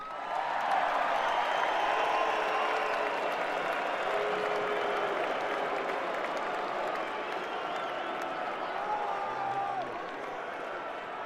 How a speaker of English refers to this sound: That's much more applause than I was expecting.